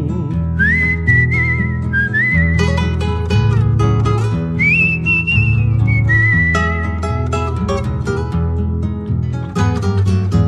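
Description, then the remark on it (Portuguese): A person whistles a slow, mournful tune in long sustained notes over steady guitar accompaniment, clear; the whistling fades out partway through while the strumming continues. “Rondando nas madrugadas, no frio do inverno medonho, a tropa dormia ouvindo o seu assobio tristonho.”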